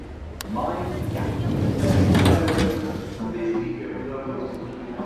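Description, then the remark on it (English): London Underground Piccadilly line train doors slide shut at Heathrow Terminals 1, 2 and 3 with a mechanical rush and rumble, fairly loud, over a steady hum of the carriage while a voice talks in the background. “This is a Piccadilly line. Service to Cock Fosters. Please stand clear of the doors.”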